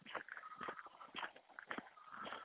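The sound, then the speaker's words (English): A 30-year-old retired draft mare walks slowly on a hill, its hooves clip-clopping in a steady, unhurried rhythm of about five distinct strikes, moderately loud. “A horse here on the hill.”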